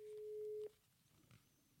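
telephone ringing tone

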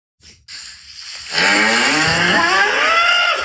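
cows mooing

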